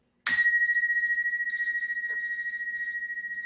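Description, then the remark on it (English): A single bell is struck once, giving a sharp bright onset followed by a clear, sustained ringing tone that slowly fades and shimmers over several seconds. “I'm going to ring a bell as another way of looking at this refresh spike”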